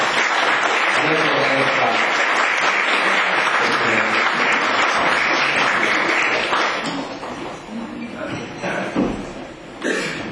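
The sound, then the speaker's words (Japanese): At a club meeting, an audience claps steadily for several seconds, the dense applause loud at first and then thinning and fading over the last few seconds, with a few murmuring voices beneath. “次年度は英字に拍手でお送りいただければと思います。”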